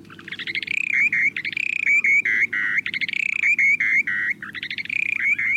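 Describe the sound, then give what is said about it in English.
A short-billed dowitcher's breeding song: loud, repeating phrases of rapid stuttering notes that flow into steady, buzzy whistled tones, cycling rhythmically with no talking over a faint low hum. “These calls might seem unimpressive, but take a listen to the short-billed dowitcher's breeding songs.”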